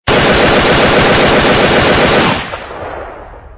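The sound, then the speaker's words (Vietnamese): A loud, sustained burst of automatic gunfire, rapid shots fused into a continuous rattle for about two seconds, then cutting off into a fading echo and rumble. “Ngón tay tên Tám miết mạnh lên cò súng, một loạt đạn nổ vang cùng đà.”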